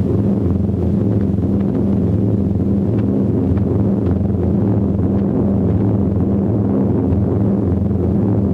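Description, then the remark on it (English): A steady, low droning roar of a squadron of Fortress bombers flying high above prisoners in fair spring weather, March 1944, with layered humming tones that hold at an even, loud level throughout and no voices. “High above them, a squadron of bombers flies by. Fortresses.”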